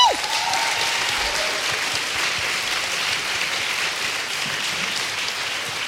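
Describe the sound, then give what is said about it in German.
A live audience bursts into loud, sustained applause as a guest is brought onto the stage, dense clapping continuing steadily for several seconds with a faint whistle near the start. “Und ich hole ihn gleich unter tosendem Applaus auf die Bühne.”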